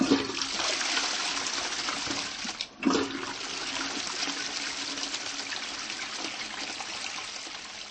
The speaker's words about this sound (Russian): Когда мы смываем воду в туалете, вряд ли кому-нибудь придет в голову подумать о том, что происходит с этой водой, которая легко избавляет нас от нечистот.